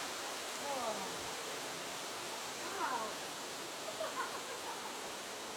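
A steady, even rush of river water flowing past a pool, a continuous hiss-like wash with no break, with a few faint, brief chirps rising above it now and then.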